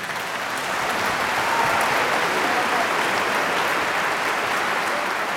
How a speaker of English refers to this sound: This is why, at performance end, we scream, stomp our feet, and throw our hands together, and we violently reawaken to our bodies.